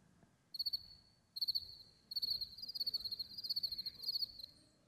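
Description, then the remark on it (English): Crickets chirp in quick pulsing bursts, a steady high-pitched trill repeating across the whole stretch over a soft low rumble, with no voices present. “Crickets. Nothing. Silence.”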